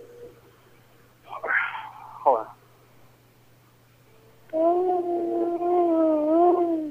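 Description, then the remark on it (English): A brief stretch of quiet voice sounds, then a loud, sustained yell muffled into a forearm, made as loud as possible for about five seconds by a person on a public bus: a steady, wavering, dull-toned cry that holds for several seconds without a break. “I want you to put your mouth over your forearm and yell as loud as you can for 5 seconds”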